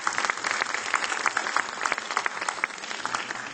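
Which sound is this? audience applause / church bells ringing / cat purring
audience applause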